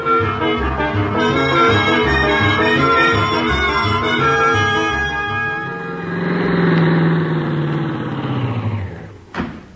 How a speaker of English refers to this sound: Start the car, Miss Brooks. All right, Mr. Conklin. And this time we're really off to Clay City.